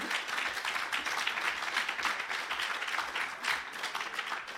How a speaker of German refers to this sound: Applaus.